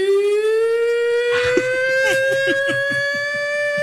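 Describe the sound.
A loud, drawn-out husband-calling yell from a contest at the Iowa State Fair, performed in 2011, held on one steady, slowly rising pitch, ringing almost like a siren, with faint background voices murmuring underneath partway through.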